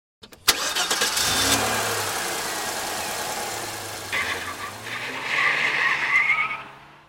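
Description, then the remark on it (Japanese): A car engine kicks in with a sharp start and revs hard as parents drive at high speed to the hospital with their sick daughter, tires squealing loudly near the end before the roar fades out. No one speaks. “ある日、私が仕事に出ていると、反響欄の声で妻から電話があり、私たちは娘を抱えると、病院目指して猛スピードで車を走らせた。”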